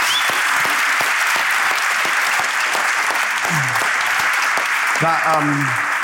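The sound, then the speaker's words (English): A large audience applauds steadily in a dense, continuous wash of clapping, with a few cheering voices rising above it toward the end. “That is an applause big enough to keep on that episode of High Performance”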